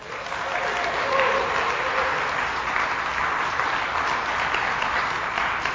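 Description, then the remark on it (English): A crowd claps steadily, a dense, even patter of many hands holding at a fairly loud level for several seconds without letting up. “Don't applaud, just say oh money.”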